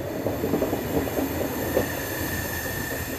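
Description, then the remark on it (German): The Eastern Express train rolls steadily through the suburbs of Ankara for almost an hour with a constant rumbling drone, while thin, high-pitched brake squeals ring out over the clatter throughout, loud, with no voices. “Fast eine Stunde lang rollt der Zug mit quietschenden Bremsen durch die Vororte Ankaras, bis die Dunkelheit gnädig ihren Mantel über baufällige Wohnhäuser und Industriebrachen deckt.”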